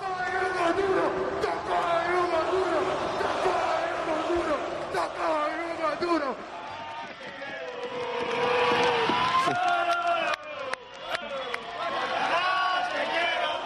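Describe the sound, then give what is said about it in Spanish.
Valencia football players chant and sing loudly together, celebrating at a city hall reception, in a rowdy, continuous, overlapping stream, including chants of "campeones, campeones" and chants about Getafe, with sharper shouts and claps breaking through toward the end. “Pero claro, en todas las celebraciones hay cánticos, algunos maravillosos, como el de campeones, campeones, y otros no tan bonitos, porque los jugadores del Valencia, ojito, se acordaron del Getafe.”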